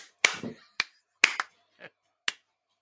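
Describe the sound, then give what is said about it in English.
Several sharp hand claps at irregular intervals, about six quick smacks spread over a few seconds, some with faint scuffing between them, made by hands clapping to swat at a fly. “There's a fly here. I'm not clapping you.”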